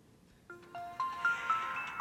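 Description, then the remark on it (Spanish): A short Samsung phone startup sound logo jingle: a rising sequence of bright, clean electronic tones, about half a second apart, building into a shimmering sustained chord. Clear, no talking. “Eso es un logo sonoro, ¿sí? Ningún otro teléfono, excepto Samsung, tiene ese sonido.”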